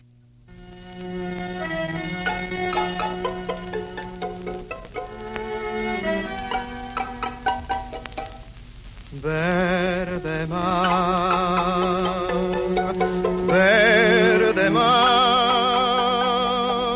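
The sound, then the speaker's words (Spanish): An old tango record from 1938 plays: a steady orchestral passage with bright, sustained melody lines, then a vocalist begins singing over the band, all beneath a faint crackling surface hiss. “Esta grabación es del año 38, ¿qué te parece así?”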